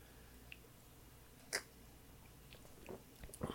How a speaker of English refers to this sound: Here we go. First sips.